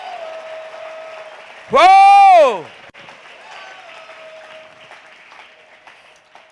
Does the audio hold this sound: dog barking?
no